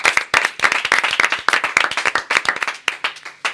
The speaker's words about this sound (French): Merci de faire un tonnerre d'applaudissements